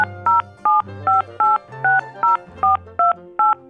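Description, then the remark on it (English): A Juneau phone number for a joke line is punched in as a quick series of ten steady, high dual-pitched touch-tone beeps, each short and evenly spaced, with a low hum running underneath. “Call the number and you'll hear a joke.”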